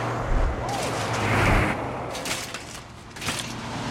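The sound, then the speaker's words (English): Military trucks speed past with a deep engine rumble and low droning hum, swelling to a loud rushing peak midway before a few sharp clattering bursts as the noise tapers off. “Military trucks speed past.”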